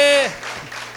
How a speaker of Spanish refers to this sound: Denle un aplauso a aquel que venció la muerte.